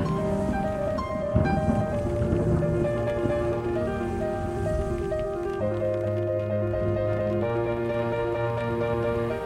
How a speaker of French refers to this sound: Et l'île d'en face disparaît peu à peu. On entend le vent.